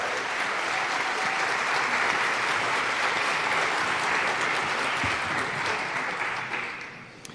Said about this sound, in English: So with this announcement, here is The Best Worst Thing from Mikko Hipponen. Big round of applause.